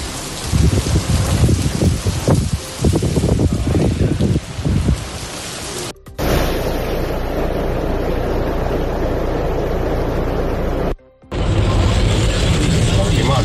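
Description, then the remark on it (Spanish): Heavy rain from storm Efrem pours in a loud, steady hiss over Extremadura while strong wind gusts rumble and buffet underneath, the sound cutting abruptly twice between sections. “Son ya muchas horas de lluvias intensas en nuestra región y de fuertes rachas de viento en muchos municipios repartidos por nuestra tierra”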